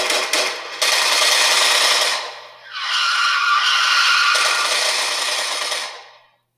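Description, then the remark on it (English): A car's tires screech loudly in two long, harsh bursts as it suddenly pulls up at a car wash, the first fading briefly before a second sustained skid that gradually dies away. No one speaks. “Suddenly, a car skirts up and some guys get to shooting right at them.”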